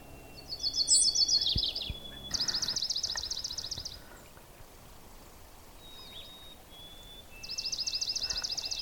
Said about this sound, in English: That kind of a di-di-di-di-di-di, called a trill, that's a swamp sparrow. And I guess, as the name implies, they do nest around water. So it's not unusual to see them in a place like this.